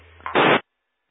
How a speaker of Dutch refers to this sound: Nee, ik hoor wel een piepje, maar ik hoor verder niks.